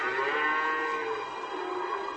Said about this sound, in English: No, man, not the cows again. Come on, don't do this. Not now.